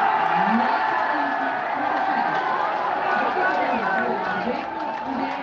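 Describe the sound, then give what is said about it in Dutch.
Supporters of the Dutch party Boer-Burgerbeweging (BBB) cheer and shout at the Eerste Kamer (Senate) election exit poll. It is a loud, sustained roar of excitement, with many voices overlapping in whoops and yells, holding steady for several seconds before easing slightly near the end. “Je hoort de reactie van de Boer-Burgerbeweging op de exitpoll van de Eerste Kamer.”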